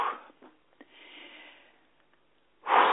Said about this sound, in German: Atmet kräftig aus und lasst alle Anspannung, Nervosität, was auch immer heute schon war, was euch vielleicht geärgert hat oder unruhig gemacht hat oder was auch immer. Einfach rauslassen, ausdehnen, wegpusten.